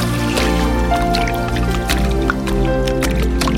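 Water drips and trickles, with scattered drops falling irregularly over a steady, sustained musical drone that fills the background throughout.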